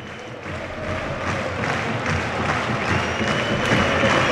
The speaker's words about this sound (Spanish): Coreando a Xavi Hernández del Estadio Olímpic. Y él aplaude a la grada. Se confirma que no es el público habitual.